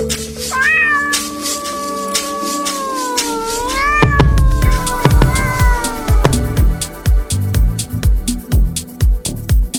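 A cat gives a long, drawn-out meow that wavers in pitch, loud, then a few shorter mews fade under steady rhythmic music with a sharp beat.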